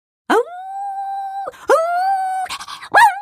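A small white dog howls like a small wolf in long, drawn-out notes, each swooping up and holding steady before breaking off; two sustained howls are followed by shorter, rougher yowls, loud, with no talking.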